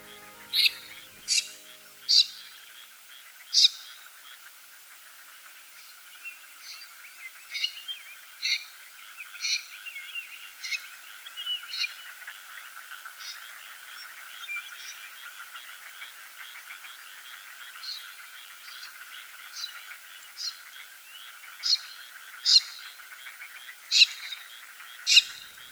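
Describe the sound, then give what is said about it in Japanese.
Before dawn in rice paddies beside the Edo River in Matsudo, Chiba Prefecture, Japan, a dense frog chorus drones steadily while a common snipe gives short, harsh calls, repeated at irregular intervals and standing out sharply above the croaking throughout. “カエルの合唱の合間にタシギの鳴き声が聞こえてきました。”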